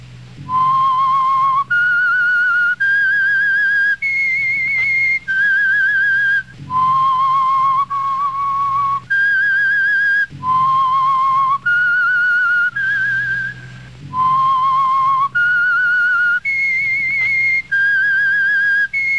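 A clear, loud whistled melody repeats a short tune several times, each note steady and sustained, played alone with no talking over it. It is the signature whistle of a radio program heard each Wednesday night, brought to you by the Signal Oil Company.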